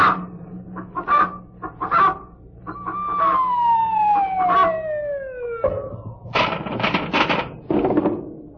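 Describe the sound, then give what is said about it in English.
A pet hen named Brenda clucks in quick bursts, interrupted by a long descending whistle-like slide before a flurry of louder, busier clucking returns at the end. “And now for the correct time from Brenda, our pet hen.”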